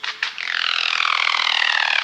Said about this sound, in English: Looking like a slim turkey, 2 feet long and all black, the Highland Guan perches on a tree branch, whistles, and then glides on vibrating wings. The resulting wondrous sound is like no other.